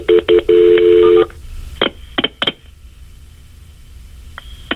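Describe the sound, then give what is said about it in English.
Telephone keypad tones sound in a quick run of short beeps and one longer beep as an emergency call is transferred to EMS, followed by a few sharp clicks on the line and quiet hiss, with no one speaking. “So stay on the line while I connect the EMS, please.”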